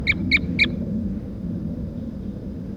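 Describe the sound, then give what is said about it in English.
At 9 o'clock in the morning, three sharp, high bird calls ring out in quick, evenly spaced succession at the start, standing clearly above a steady low rumble of background noise, then only the rumble continues. “Start recording. This is bird 4-3 at 9 o'clock a.m.”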